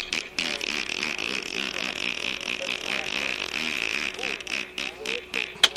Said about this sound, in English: Now on the pond, there was a lot of ducks.